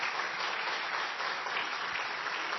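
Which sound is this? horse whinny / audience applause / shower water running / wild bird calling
audience applause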